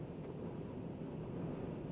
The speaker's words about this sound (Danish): Jeg tror, I kan, fordi det blæser temmelig kraftigt derude.